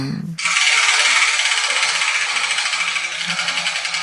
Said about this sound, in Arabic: إذن ابدأي بتحريك الدولاب ولنرى أي كرة تسقط منه.